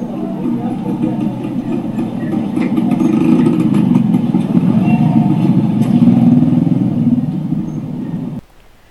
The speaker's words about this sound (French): Elles parviennent près d'une grande route où se pressent des camions, dans un vacarme assourdissant.